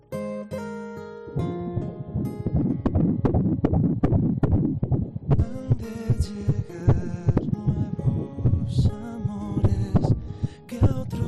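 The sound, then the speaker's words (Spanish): A fetal heartbeat at about eight weeks, heard as a fast, steady run of whooshing pulses like an ultrasound monitor, continuing for the whole stretch over a low humming background, with no talking. “Pues así suena el latido de un corazón a las 8 semanas de vida.”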